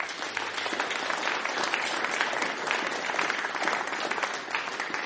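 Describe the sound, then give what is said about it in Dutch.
Steady, dense applause from a large audience, many hands clapping at once in a continuous roar for the full few seconds, with no voices standing out; the applause is for the pianist as the members of a band are introduced. “Dus een heel groot applaus voor ….”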